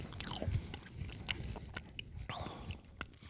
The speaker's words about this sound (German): Aber unendlich süß. Auch die Waffel schon, die so mit Zucker zersetzt, knuspert, ich meine, ist toll, aber selbst die Waffel.